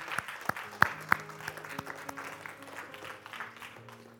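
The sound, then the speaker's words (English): An audience claps their hands: a few loud, sharp claps open, then many hands join in a steady, scattered patter of applause over low, sustained musical tones. “Y'all clap your hands for Jesus crossing.”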